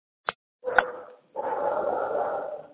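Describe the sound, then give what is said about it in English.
A dog barks: one sharp yap, then a rougher bark, followed by a longer, harsh drawn-out bark or growl, fairly loud with no one talking. “And there's a barking dog.”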